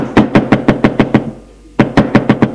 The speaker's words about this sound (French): On frappe à la porte.